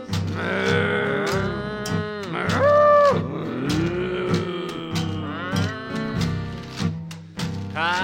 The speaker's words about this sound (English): I got cows.